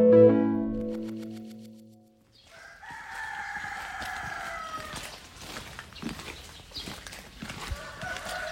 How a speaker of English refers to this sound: it sounds like there are a lot of ducks and chickens in this village that you went to. I think there's a goose. There's a goose in there too. A goose? Yeah. All kinds of poultry.